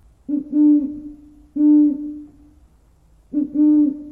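An owl hoots three times at unhurried, slightly uneven intervals, each call a steady, fairly loud tone lasting under a second and heard clearly on its own with no talking.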